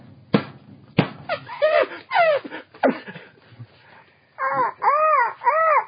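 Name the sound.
crows cawing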